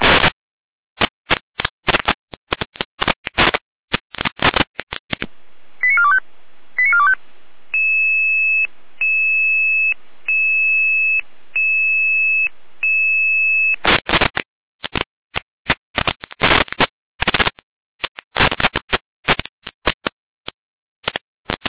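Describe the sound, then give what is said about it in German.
Radio alerting tones from a dispatch centre calling the fire brigade in Schleiz to an emergency door opening: a quick run of short beeps, then a steady, pulsing electronic tone held for several seconds, framed by harsh bursts of crackling digital data noise before and after. No one speaks. “Hier mit Alarmierung.”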